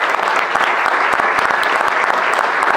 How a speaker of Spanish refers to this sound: Un saludo, un aplauso para todas ellas que hoy están aquí acompañándonos.